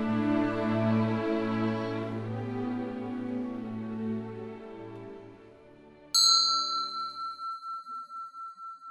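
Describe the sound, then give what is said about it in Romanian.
A large church bell in Eschenrode, a few dozen kilometres from Frankfurt, rings loudly, its deep humming tone fading slowly before a fresh strike about six seconds in sets off a bright clang with a pulsing, wavering decay. No voices. “La câțiva zeci de kilometri de Frankfurt, în Eschenrode, clopotul bisericii sună cu putere.”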